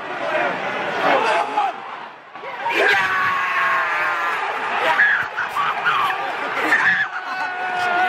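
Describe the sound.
Loud, excited screaming and cackling laughter from a young man filming a video, bursting in repeated shrieks and whoops over a noisy background like a crowd or street.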